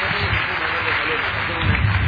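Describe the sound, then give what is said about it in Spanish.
A crowd claps loudly and steadily for a couple of seconds, a dense wash of applause with indistinct voices and cheering mixed underneath, giving applause to Jesus. “¡Fuerte el aplauso a Jesús!”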